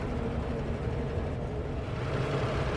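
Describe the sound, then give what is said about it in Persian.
A car engine rumbles steadily on a street as Abu Khalid's car arrives from the opposite direction, a low, continuous drone holding at a fairly even level throughout, with no voices. “ماشین ابو خالد از روبرو میرسه.”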